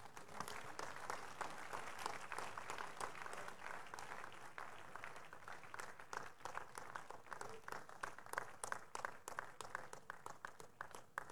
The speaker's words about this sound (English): Let's rise to our feet as we celebrate God for these amazing testimonies with a hand clap of praise.